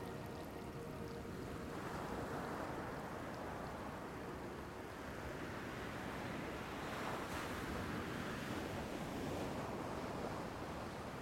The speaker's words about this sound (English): you find yourself back on the beach now, resting on the sand, watching the waves and reflecting on your experience.